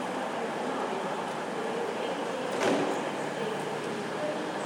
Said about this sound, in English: Slamming doors.